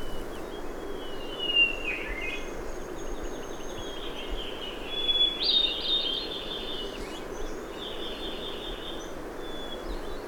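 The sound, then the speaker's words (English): A thrush on Niwot Ridge, west of Ward, sings a clear, sustained introductory note followed by a quick fluting flourish sung harmonically on both sides of its voice box, faint over a steady wash of outdoor background noise, with no voices. “Up here on Niwot Ridge, west of Ward, the thrushes will be singing throughout July and August.”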